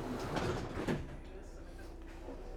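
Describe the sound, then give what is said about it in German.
The doors of a number 19 bus at the Sulgenau stop slide shut with a brief hiss and thud near the start as ticket inspectors board, then a steady low engine rumble carries on, with faint voices murmuring in the background. “Der Bus kommt, wir steigen ein und sobald die Türen zu sind, kann es losgehen mit der Kontrolle.”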